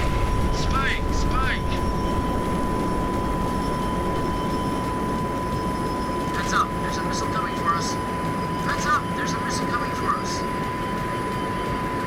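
A fighter jet engine from a video game roars steadily and loudly for the whole stretch. Short, high-pitched chirping bursts break through now and then.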